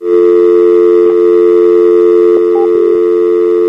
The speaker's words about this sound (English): I mean, she did pick up the phone a couple times, so I turned on the dial tone, hoping she'd try and dial a number, but no.